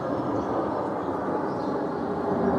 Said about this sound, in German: Ein Kampfjet, aber man hört ihn nur. Die Videoinstallation der Berliner Künstlerin Nadja Kabi-Linke zeigt nur die Bäume, vom Boden aus nach oben gefilmt.